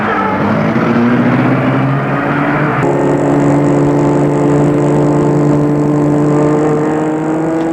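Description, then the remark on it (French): A car engine starts and runs loud, its steady hum shifting in pitch partway through as the car pulls away from a property's gate and drives across the grounds toward the house. No voices. “Et retourne dans la voiture, puis la met en route.”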